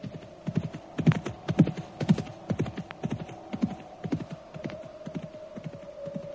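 horse hooves clip-clopping

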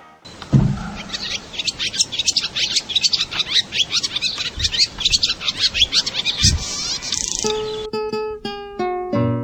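swallows chirping

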